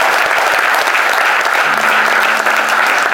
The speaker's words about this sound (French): Je pense qu'on peut encore applaudir très très fort VFM Radio et Michel Boucard pour la présence ce soir.